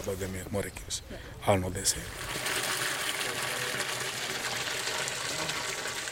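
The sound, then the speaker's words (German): A steady gush of water being pumped by a farm worker into a large blue rain barrel on a tomato farm runs continuously, with a machine-like hum beneath it; a voice briefly speaks at the start before the rushing flow takes over. “Einer von Morimis Mitarbeitern pumpt Wasser in eine große blaue Regentonne.”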